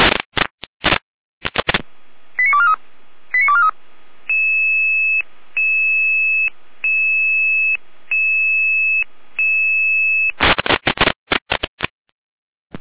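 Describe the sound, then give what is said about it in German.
Fire brigade radio alerting tones calling out the Lehesten volunteer fire brigade to a tree touching a high-voltage line: a quick warbling tone sequence, then about six steady electronic beeps in an even on-off rhythm, framed by harsh bursts of radio static at the start and end. “Jeder mit Alarmierung.”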